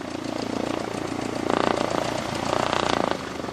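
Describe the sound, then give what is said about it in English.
A small propeller training airplane's engine drones steadily with a low, buzzing hum, swelling louder for a couple of seconds in the middle before easing back as a student lands her first solo flight at Wings of Wyoming flight school in Cheyenne, Wyoming. “A few blocks from Cheyenne Regional is Wings of Wyoming, the local flight school where instructor Rod Burnett is watching a student land her first solo flight.”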